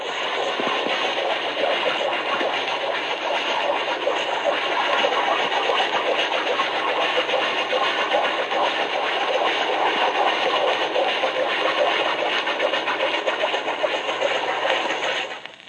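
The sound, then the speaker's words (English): Underwater propeller swish of an American S-boat submarine built about 1920, running at periscope depth at 3 knots, range 500 yards: a steady, dense churning hiss with a faint mechanical throb, holding constant loudness for the whole stretch before cutting off abruptly. No voices. “In this example, the swish of the propellers is quite evident.”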